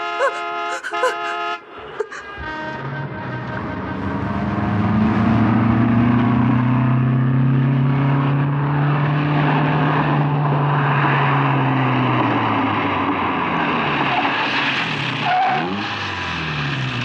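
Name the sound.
car approaching and stopping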